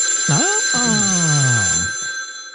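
A telephone rings loudly with steady, high electronic tones, while a deep, warbling tone slides downward in pitch beneath it before cutting off.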